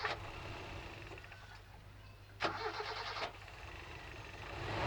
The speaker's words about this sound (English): Alright, start him engine again.